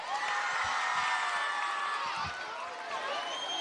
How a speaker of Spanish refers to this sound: No ha hecho falta pediros ese fuerte aplauso para el Colegio Cervantes.